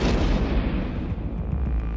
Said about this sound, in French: Et tout à coup, les deux hommes sont interrompus par des explosions. Ils pensent d'abord à des pétards. Mais pas ceux qui se fument, hélas, non. Et les détonations s'intensifient.